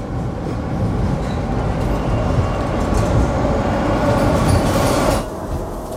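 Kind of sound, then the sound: vehicle, subway car zooming away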